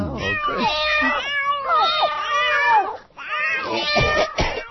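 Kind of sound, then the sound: animal, cats meowing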